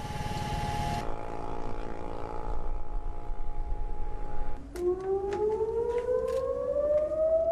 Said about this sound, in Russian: В течение 2 минут во всех городах страны был слышен звук сирен.